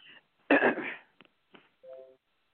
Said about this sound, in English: You clearing your throat. Come on and give it to me.